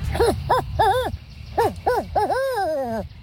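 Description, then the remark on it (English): A boy imitates a barn owl call: a quick series of short, rising-and-falling hoots, fairly loud, ending in one longer, drawn-out descending call. “First, we get the barn owl.”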